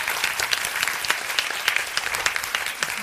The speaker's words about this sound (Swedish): Damen här med den gröna filten tycker jag... har varit en utmärkt kandidat. Åh, en applåd för damen i den gröna filten.